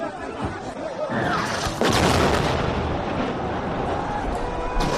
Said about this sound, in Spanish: Y a todo esto, en lo que estamos con nuestras cuitas de andar por casa, acabamos de salir de otra noche de bombardeos en la guerra entre Israel y el yihadismo en Oriente Próximo.